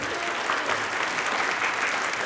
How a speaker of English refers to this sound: And of course, members of our studio audience, all the way from England. Give yourselves a round of applause.